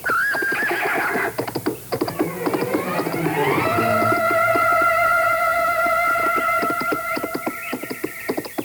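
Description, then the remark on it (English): A horse, Beau, whinnies in long, wavering high-pitched calls over a steady patter of hoofbeats while being ridden over jumps, with a rising, sustained neigh dominating the middle and end. “Besides, after being cooped up in the house for 3 whole days, a few jumps are just what I need to work off my frustration.”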